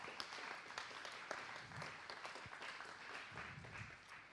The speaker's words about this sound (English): So this is our team. Let's give everyone another big round of applause.